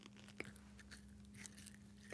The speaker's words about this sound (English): Don't be fooled by the snacks that I got. Let's hear a crunch like we usually do.